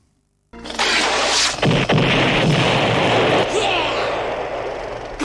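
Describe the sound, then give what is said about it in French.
Loud explosions from mini-rockets fired by a helicopter at a man a few kilometres away erupt suddenly after a brief silence, a dense barrage of blasts and sharp bursts merging into a continuous roaring rumble that barely fades. “Donc, elle va envoyer son hélico pour le tuer. Boum!”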